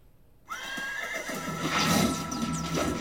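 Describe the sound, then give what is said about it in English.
After a brief hush, a horse lets out a loud neigh, a long shrill whinny that wavers and trails off over a few seconds, with some clattering and rustling underneath. “By the time my horse had reached the capital, the gates of the kingdom had already been destroyed and the lust fiends were wreaking havoc in the city.”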